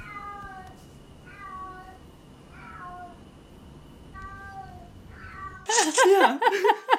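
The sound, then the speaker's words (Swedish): A cat in heat yowls outside a room at night in a series of long, drawn-out, wavering cries over faint background hiss, ending in a sudden burst of louder, harsher caterwauling. “Det låter som en katt som löper, som är sugen på en hankatt.”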